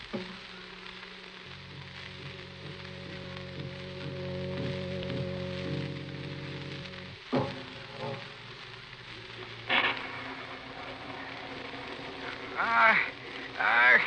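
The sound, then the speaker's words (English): Steady, hissing rain pours throughout a stormy scene, with low sustained droning tones in the first half and several sharp, louder bursts cutting through the downpour later on. “Again, it storms. This violence, this noise, it upsets me”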